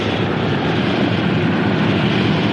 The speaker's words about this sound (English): Moments later, it touches down on the icy field. With ski-like runners attached to its wheels, it slides across the tundra, kicking up sprays of snow. Propellers whirling, it skis up to the base and comes to a stop.